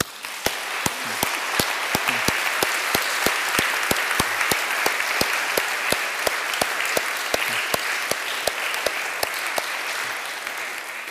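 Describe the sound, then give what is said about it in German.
Sustained audience applause at a church service: many hands clapping steadily for about eleven seconds, a dense, even wash of claps with some sharper individual claps standing out, no talking. “Nochmal ganz herzlichen Dank allen und einen grossen Applaus.”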